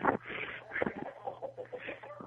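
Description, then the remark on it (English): Several chickens cluck in a coop, short overlapping calls in an irregular stream over a low steady hum. “Those are totally chickens. I can hear them, though.”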